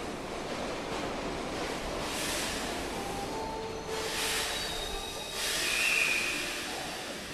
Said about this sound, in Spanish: A ver, espera que ahí viene el subte, ahora la seguimos.